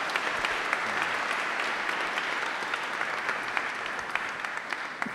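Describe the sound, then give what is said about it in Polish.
Sustained audience applause at a first-Thursday prayer gathering, given for those who have not yet spoken, with many overlapping claps forming a dense, steady wash of sound for several seconds, with a few sharper claps standing out; no one speaks. “Brawa dla tych właśnie, którzy jeszcze nic nie powiedzieli.”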